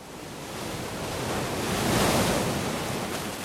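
Ocean surf rushes steadily, a broad wash of breaking waves that swells to a peak around the middle and eases slightly, with no voices.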